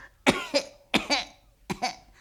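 Three sharp double coughs in steady succession from a girl being examined by a doctor, each a pair of quick harsh bursts with short pauses between pairs; nobody speaks.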